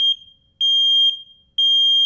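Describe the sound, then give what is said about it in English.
A loud, piercing home smoke detector alarm sounds in repeated long beeps, each tone lasting about half a second with brief gaps between, clear with no voices. “It's the smoke detector in your home.”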